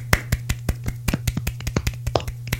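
A soft, polite golf clap: about fifteen light, quick claps in a fairly even rhythm, quiet and crisp, with a low steady hum underneath and no talking.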